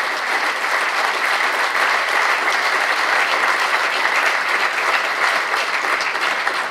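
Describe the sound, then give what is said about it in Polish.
An audience at a congress claps steadily for several seconds to thank the speakers, a dense, loud wash of overlapping handclaps that holds an even level throughout without rising or fading. “Brawo, brawo.”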